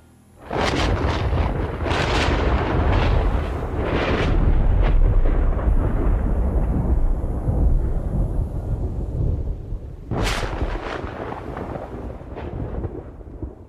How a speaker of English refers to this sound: Suddenly, the skies turned crimson and roiling clouds in the firmament unleashed thunder and lightning.